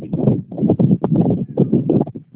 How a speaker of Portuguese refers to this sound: eu não consegui ouvir muito bem a senhora, porque tem um barulho de vento.